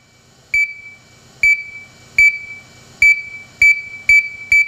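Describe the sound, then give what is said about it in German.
A loud electronic warning beep sounds seven times at slightly irregular intervals, each short tone piercing and high-pitched, with a faint hum of machinery underneath and no voices, in the 300-metre-long PETRA III synchrotron experiment hall at DESY in Hamburg. “Wenn die Wissenschaftler in der Petra-3-Halle diesen Piepston nur ab und zu hören, ist alles in Ordnung.”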